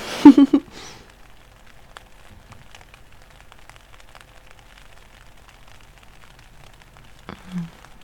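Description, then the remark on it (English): Soft, steady rain patters on a tent during a backpacking trip, a continuous scatter of light drops overhead, with a couple of brief louder rustles at the start and near the end. “The sound of the rain on the tent and your arms around me.”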